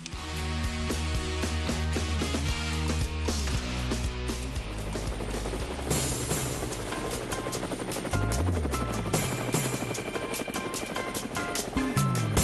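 Loud, steady helicopter rotor blades thump and whir for the whole stretch, a dense mechanical drone with a layered, music-like texture and no voices.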